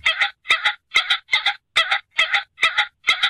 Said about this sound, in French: Ou est-ce que c'est un faisan qui prévient quand il atterrit?